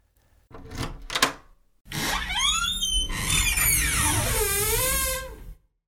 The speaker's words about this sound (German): Ich habe ihn. Und was nun? Öffne die Tür. Es geht aber nicht. Probiere es nochmal. Versuch es nach links. Geht das?